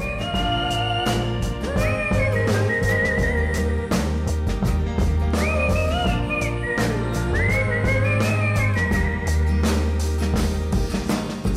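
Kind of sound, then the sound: whistling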